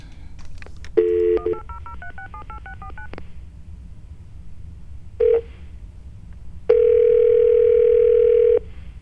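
A brief dial tone gives way to a quick run of about a dozen touch-tone beeps dialing a toll-free 800 number, followed by a short tone and then a longer steady electronic tone, clear.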